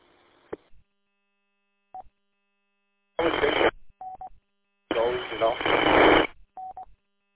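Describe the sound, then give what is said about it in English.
Bursts of harsh, hissing radio static cut in and out, two loud stretches lasting about a second each, with short mid-pitched electronic beeps sounding between them and a faint hiss at the start, heard on an amateur radio while trying to reach a repeater. “Yeah, I heard some static that time.”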